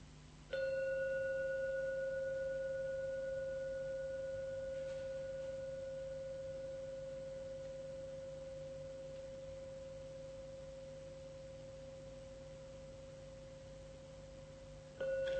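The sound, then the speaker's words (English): A gong, rung three times to close a session, is struck once and its steady, pure ringing tone lingers, slowly fading for over ten seconds, before a second strike begins right at the end. No voices are heard. “Listen and drink every sound from the gong. And only when the last sound fades away, only then open your eyes.”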